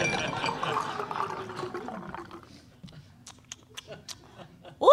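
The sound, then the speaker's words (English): A steady stream of a cocktail pours from a shaker into a glass, full at first, then thins out into a few scattered drips and light clinks before a voice briefly exclaims. “Lucky for you, I happen to have with me a shaker full of a specialty cocktail I call a Disgrace Eraser. Here, have yourself a glass”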